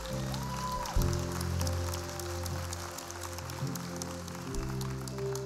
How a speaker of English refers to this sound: Can we give all those that raise a hand a big round of applause?